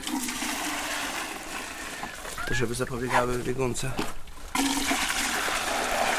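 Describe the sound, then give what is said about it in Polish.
Milk mixed with flaxseed gushes steadily from a bucket as it is poured out for goats, a continuous splashing pour that runs the whole time, with a man briefly speaking over it midway. “To jest takie mleko z siemieniem lnianym.”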